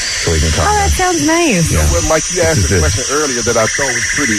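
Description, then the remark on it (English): A steady, unbroken wash of white-noise hiss from an app plays continuously while people talk over it, the hiss holding an even level throughout. “I got my white noise sound on for you guys.”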